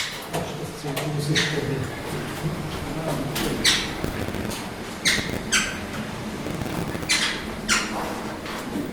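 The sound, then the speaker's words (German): Four birds flutter out of a transport cage into an aviary at the Zolli zoo's bird house: a series of brief, irregular bursts of flapping and rustling, with a few sharp squeaks over a steady low background rumble. “macht den Transportkäfig auf und die vier Vögel flattern raus.”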